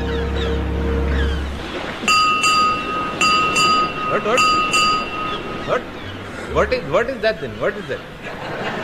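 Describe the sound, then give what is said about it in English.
A ship's bell rings out several times in a steady sequence, each clear metallic strike ringing on briefly, with voices and background murmur around it. “What is that? Six bells?”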